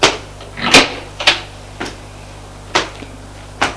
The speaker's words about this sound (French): Alexis se lève. Va ouvrir la porte de sa chambre.